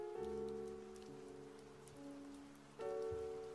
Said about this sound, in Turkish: Yağmur yağıyor, kış gelmek üzere.